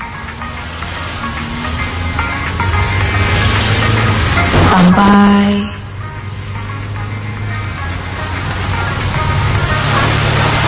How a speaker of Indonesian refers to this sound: Apalagi dari tadi hujan lumayan cukup deras. lajukan mobilku lumayan kencang sambil mendengarkan radio di dalam mobil.